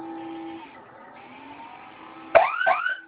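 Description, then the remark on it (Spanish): A home security alarm siren sounds after the fire button is pressed for 3 to 5 seconds: a steady electronic tone holds for a couple of seconds, then two loud, sharp warbling sweeps burst out near the end, without any talking. “Si se activa la alarma, suelta el botón y coloca su clave, por favor.”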